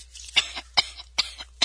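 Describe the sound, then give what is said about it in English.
Four sharp, phlegmy coughs in a quick, evenly spaced series, each a harsh burst with a short pause between, and no talking around them. “Excuse me for a second. I have to cough.”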